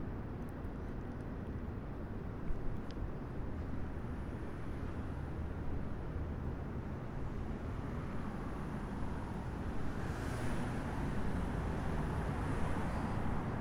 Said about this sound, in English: I think we're just a few days before lockdown, so it's good to get out. I've never heard New York this quiet before.